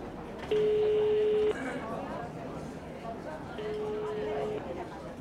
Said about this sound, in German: Hektisch wählte er Possners Nummer.